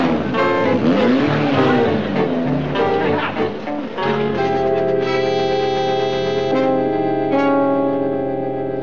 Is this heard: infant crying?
no